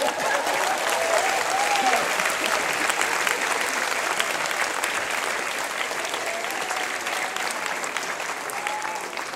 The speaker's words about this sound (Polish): Czego wy brawo bijecie? Ja w ogóle nie wiem.